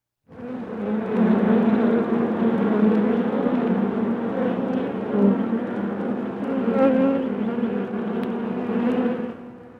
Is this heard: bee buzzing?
yes